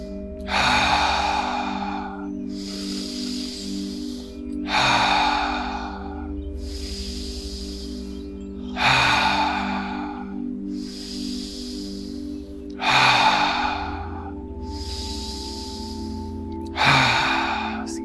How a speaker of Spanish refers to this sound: Empezamos a respirar por la nariz. Soltamos por la boca. Respiraciones profundas. Soltamos. Tenemos 10 más y las hacemos cada uno.